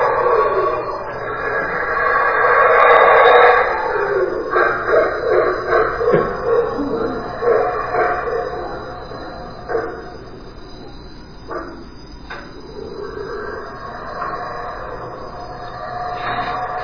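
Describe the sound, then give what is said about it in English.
Howler monkeys calling at 2 in the morning: loud, hoarse, roaring howls that swell in repeated pulsing bursts, then fade to scattered, fainter calls over a steady background hum. “So I didn't know what that was, and the next morning they said, "Did you hear the howler monkeys last night?"”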